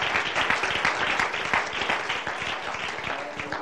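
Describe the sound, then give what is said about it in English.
A crowd applauds steadily, many hands clapping in a dense, continuous patter that stays loud and even for a few seconds without any talking. “Would you clap your hands once again under the Lord?”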